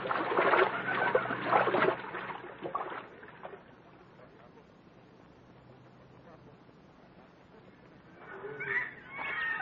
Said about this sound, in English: We can cross the river here, Buona. It will not come above our hips. Lead the way. And kindly avoid all crocodiles and snakes.